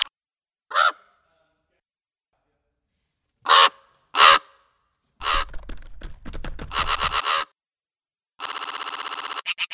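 raven calling

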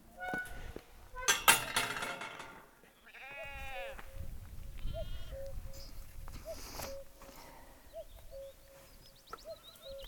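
cuckoo calling

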